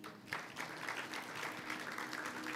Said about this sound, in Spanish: Otro pasó, otro aplauso.